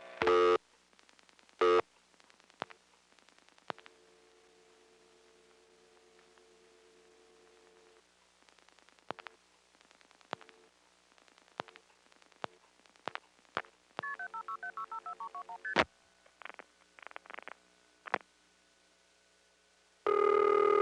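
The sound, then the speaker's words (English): A telephone number is dialed on a 756 call with extra digits: clicks and short bursts of line tone give way to a rapid run of touch-tone beeps, then a few more spaced beeps over a faint steady hum. “I'm now going to dial extra digits on a 756 call.”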